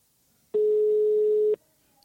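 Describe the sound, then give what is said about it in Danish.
A single steady telephone busy-signal tone, heard when calling Sølberg, sounds for about a second, loud and clear, with no voices around it and near-silence before and after. “Det kaldte nummer er ikke ledig.”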